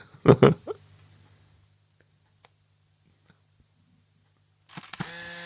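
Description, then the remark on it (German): A viewfinder camera's shutter fires with a sharp mechanical snap as it takes a flash photo, followed by a brief low hum, a few faint ticks, then a rising electronic whine as the flash recharges. “Nein, das ist das dritte Foto mit der Kamera.”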